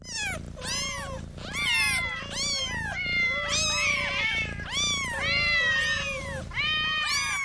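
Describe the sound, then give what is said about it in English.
Several cats meow insistently in a video, their rising and falling cries overlapping in a loud chorus that continues throughout, with some drawn-out, wailing calls and no talking. “Cat videos to the rescue. Super cats.”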